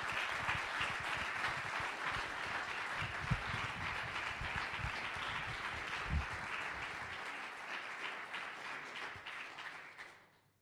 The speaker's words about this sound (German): Dann übergebe ich Ihnen gerne den Scheck und die Urkunde und nochmal bitte einen großen Applaus für das Video Schatzsuche.